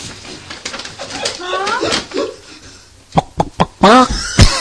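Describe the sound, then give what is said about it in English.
A pet chicken named Layla clucks in short, broken bursts, with a few sharp pecks or taps in between and a louder squawking cluck near the end. “Dad, my name is Layla the chicken.”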